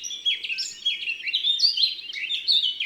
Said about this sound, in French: revenons sur Terre avec la fauvette à tête noire et son chant joli.